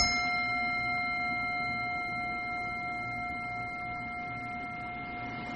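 A single meditation bell struck once, its clear, shimmering tone ringing out and slowly fading over several seconds with no voices.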